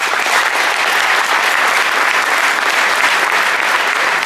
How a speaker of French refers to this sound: c'est que parmi les équipes qui vont participer à l'UNCP 2017, nous avons la première équipe invitée, l'équipe des Daoudi Bora, que nous allons féliciter et que nous allons applaudir très très fort.